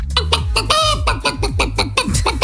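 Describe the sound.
A person imitates a hen clucking, producing quick, rhythmic bursts of clucks with one drawn-out squawk partway through, loud, with no other talking.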